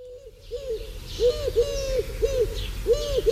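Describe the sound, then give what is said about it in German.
Soft, hooting pigeon coos repeat in a loose rhythm, several rounded calls close together over faint background noise and a bit of chirping. “dass ich früher mal gedacht habe, das ist ein Kuckuck. Bis ich gerafft habe, das sind Tauben.”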